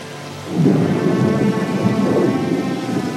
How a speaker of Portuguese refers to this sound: A chuva já começa a cair.